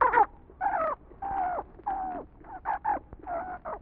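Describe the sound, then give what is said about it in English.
A funny-looking bird brought by Mr. Unk squawks over and over, about nine harsh, raspy calls in quick, uneven succession, fairly loud, with no talking. “He brought some funny-looking kind of a bird.”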